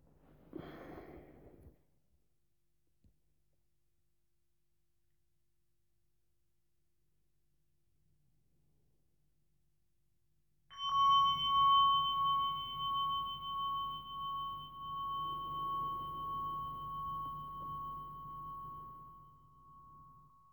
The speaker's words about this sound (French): Et puis, au son de la cloche, se relever et recommencer.